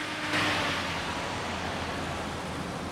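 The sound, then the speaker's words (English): In daytime, a bus pulls away from a stop on a busy downtown road, its low engine hum blending into a steady, loud wash of traffic noise that fills the whole scene without a break. “She looks around to get her bearings before crossing the road as the bus pulls away.”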